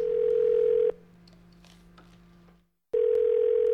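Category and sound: signal or alarm, telephone line tone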